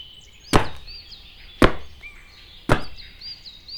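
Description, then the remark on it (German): Three hard, thudding stamps of feet on the ground land at a steady, even pace, each a sharp impact that fades quickly, while faint birdsong chirps in the background. “Na los, stampf mal kräftig mit deinen Füßen auf den Boden.”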